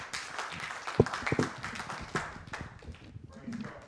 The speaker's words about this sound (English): Come on, let's clap over your head, in other words.